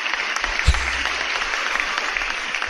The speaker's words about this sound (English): Hold on. I have right here an applause.